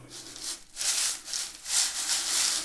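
A rain sound effect made by hand with dried peas, a prop of former radio sound-effects artists: a steady, hissing rush that swells and fades in waves, with no voices.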